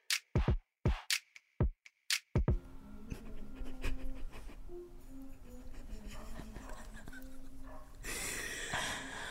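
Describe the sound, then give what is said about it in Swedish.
A dog pants in a quick series of sharp, breathy bursts, then gives way to a steady, noisy background hiss with a faint hum. “Åh, det är den jävla hunden.”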